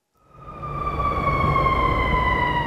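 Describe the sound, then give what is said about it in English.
An emergency vehicle siren rises out of quiet and holds loud, its tone sliding slightly lower as it passes, over a rumble of street traffic, outside the Cook County Juvenile Justice Center on the near west side of Chicago. “NPR's Cheryl Corley has this report, which begins with a siren passing by”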